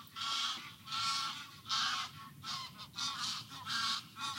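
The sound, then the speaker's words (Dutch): Geese honk repeatedly in loud, overlapping bursts, a steady series of harsh calls with no one speaking. “Ik vind ze heerlijk, die ganzen. Maar ze schreeuwen wel overal doorheen.”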